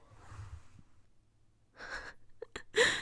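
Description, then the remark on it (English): A soft exhale, then a sudden sharp gasping inhale, quickly followed by a couple of short, forceful coughing bursts, with no talking. “I was breathing out and then I breathed in really like sharply and it made me cough, sorry.”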